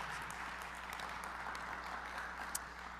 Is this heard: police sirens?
no